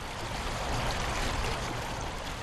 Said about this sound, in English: And I'm standing next to that gauge along the Grand River where the muddy waters flow beneath the Blue Bridge just to my north.